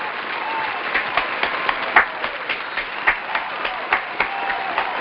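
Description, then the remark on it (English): A crowd applauds steadily for several seconds in honor of Maya Moore, a dense wash of many hands clapping with a few sharper, louder claps standing out, sustained without any talking. “Give a round of applause for Maya Moore.”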